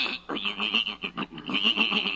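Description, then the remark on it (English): A horse named Silver Moon whinnies, a shrill, quavering neigh lasting about two seconds with a rapid fluttering pulse, heard on its own. “Now you're talking real horse sense.”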